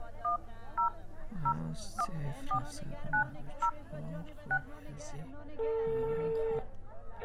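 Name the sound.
telephone keypad dialing tones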